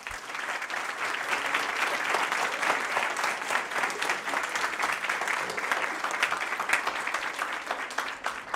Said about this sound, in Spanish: A ver si me regalan un aplauso.